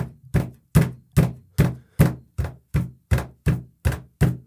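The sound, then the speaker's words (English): About a dozen heavy, booming thuds land in a steady, quick rhythm as someone stomps around and slams doors, heard from a basement. Each impact is deep and resonant with a short decay, and no voices are heard. “her ass just stomping a fucking round, slamming doors.”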